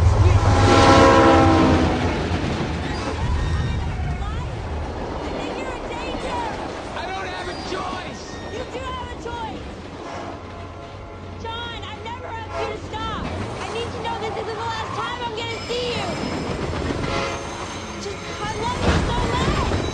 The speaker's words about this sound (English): Ready. Start filming. Be extra loud when the train passes by. Here we go.